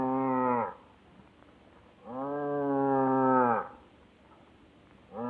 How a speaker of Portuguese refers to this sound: O enterro fantástico estava ali, parado pelo cansaço. E como mugia o pobrezinho.